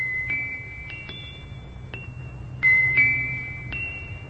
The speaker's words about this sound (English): One need only turn this key, my dear brother. Release this lock, and the iron wheels begin to turn. And then the hammer strikes, and the bells ring.